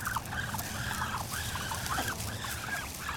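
Gray geese, white American Pekin ducks and mottled Muscovy ducks call over and over in quick, overlapping honks and quacks at a neighborhood duck pond, with a steady low rumble of outdoor background noise and no one talking.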